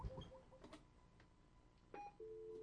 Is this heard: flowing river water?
no